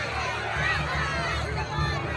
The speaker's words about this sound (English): The mob roared even louder.